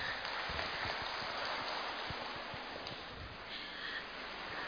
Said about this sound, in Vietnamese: Nhưng xin một tràng pháo tay ạ.